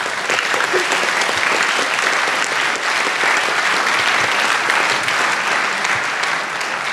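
Sustained audience applause fills the whole stretch, a dense, steady patter of many hands clapping at once, loud and close, with no pauses or voices standing out.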